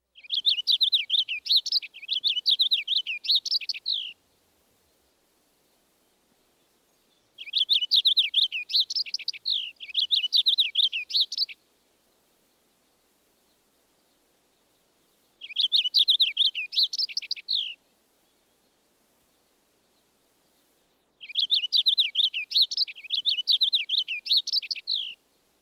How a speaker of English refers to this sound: Now the purple finch. The purple finch song has a clearer tone, and although it lacks the heavily accented zree notes, the phrases sometimes end with a short downward trill.